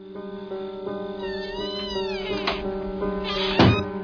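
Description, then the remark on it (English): A traditional squeaking-door sound effect in a John Carpenter horror film: a door squeaks open in slow, wavering, high-pitched creaks over a steady low hum, followed by a few dull knocks and a louder thump near the end. No one speaks. “Traditional squeaking door and sound effects lead you to believe perhaps that he's in there.”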